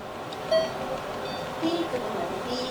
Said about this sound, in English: January 16th. My 5 days of chemo are over. You hear that beep? Well, anyway, that... Can I have my nurse, please? That is the last bag of my last day of the last chemo ever.